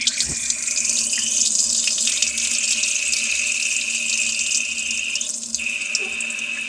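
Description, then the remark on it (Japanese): A forceful stream of urine splashes steadily and continuously for several seconds, a bright, hissing pour with a few small shifts in tone and no voices. The stream comes out harder than expected, splashing widely and onto a smartphone. “ちょっとよいしょ、おしっこがちょっと結構思ったより勢いよく出て、すごい飛び散っちゃって、スマホの方にも飛んできちゃいました。”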